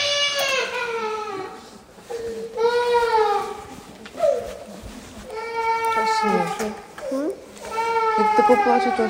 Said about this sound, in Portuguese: O choro da criança fez-me sair dos meus pensamentos e regressar ao abrigo. Abrigo que, na verdade, é um parque de estacionamento subterrâneo.